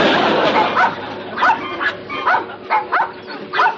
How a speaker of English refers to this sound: I could have sworn I heard barking. We must have been outside. It sounded so close.